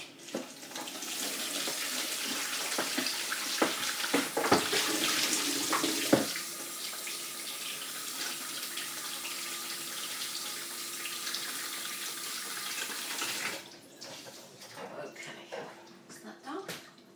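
tap running

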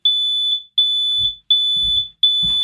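smoke alarm going off

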